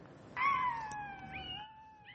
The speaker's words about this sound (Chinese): 这不仅仅是这位女士的爱犬像狼一般的嚎叫，还是她在自己的智能手机上听到的波形刺青。